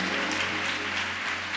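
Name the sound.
audience clapping hands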